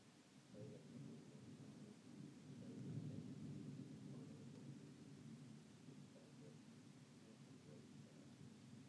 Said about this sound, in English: When I wanted to record the thunderstorm. If I hadn't already been on there when it started, I would not have started it. Don't go thunder, don't go thunder.